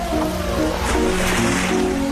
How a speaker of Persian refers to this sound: تنها موندم تو این رودخونه ترسناک.